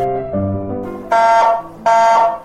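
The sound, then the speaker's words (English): A smoke alarm blares in two loud, harsh electronic blasts with a short gap between them, following a brief lower tone, set off by a turkey burnt on Thanksgiving Day. No voices are heard. “Our smoke alarm is wailing.”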